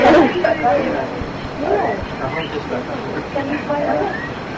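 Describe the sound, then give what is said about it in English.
A talking bird utters a string of short, speech-like calls and squawks, imitating human words such as "Krishna, Krishna", over a steady low rumble of background noise. “Bird, actually bird.”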